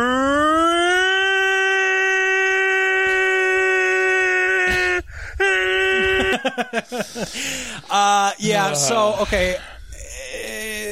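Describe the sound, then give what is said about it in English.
A voice imitates a tornado siren, rising into a long, loud sustained wail, then breaking into a series of swooping, wavering pitch glides up and down, alone. “Okay, guys, I'm going to do a tornado siren once again.”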